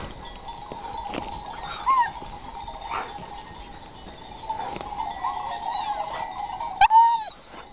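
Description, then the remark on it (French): A herding dog guides a flock of ewes on a ridge around a summit, with occasional sharp barks, scattered bleats and a steady tinkling drone running throughout, moderately loud, with no talking. “son chien qui guident et déterminent les déplacements des brebis.”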